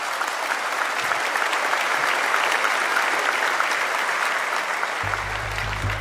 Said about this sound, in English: How about all these volunteers in our church? Let's just give them a round of applause because they matter so much.